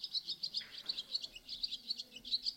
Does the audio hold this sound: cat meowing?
no